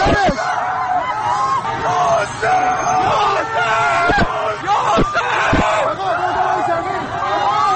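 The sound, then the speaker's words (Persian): A dense crowd shouts and yells in overlapping, frantic voices as it rushes to help people hit by sniper fire, with the pained cries and moans of the wounded and shot mixed into the steady loud din and a few sharp sudden bursts cutting through. “صدای ناله زخمی ها و تیرخورده ها با صدای فریاد جمعیتی که به کمکشان رفته در هم می پیچند.”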